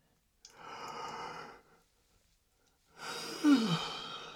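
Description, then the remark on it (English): A single yawn: a long breathy inhale, a short pause, then a drawn-out exhale that ends in a low, falling voiced groan. Nobody speaks. “I just yawned.”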